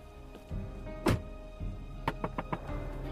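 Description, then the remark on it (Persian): Someone climbs out of a car: a solid door thump, then a few quick sharp taps or steps over a low, steady rumble. “باعث از ماشین مهتاب پیاده میشه.”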